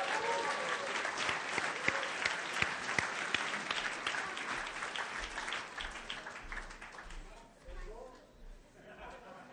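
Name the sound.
audience applauding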